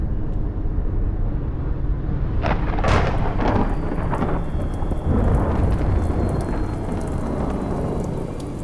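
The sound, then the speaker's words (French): Steady heavy rain pours down while a loud rumble of thunder rolls in and crackles for several seconds before fading back into the downpour. No voices. “J'aime la pluie et les orages.”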